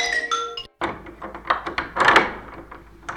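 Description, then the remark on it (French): A door to a room is opened: a brief tonal squeak, a short pause, then a rattling clatter of handle and wood with a few sharp knocks. No one speaks. “Et donc j'ouvre la porte et je dois laisser dépasser mon pied chaussé d'une sandale.”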